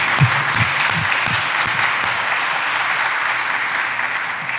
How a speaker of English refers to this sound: So why don't we just give Jeff a nice round of applause of love and admiration.